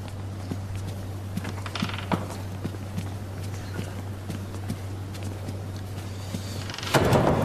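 door being opened

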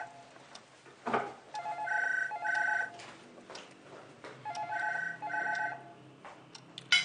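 telephone ringing

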